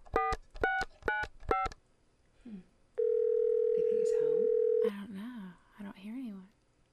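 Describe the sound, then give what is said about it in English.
Four quick touch-tone beeps of a number being dialed, a pause, then a single long steady ringback tone over the line, followed by a voice talking. “Okay, it's ringing.”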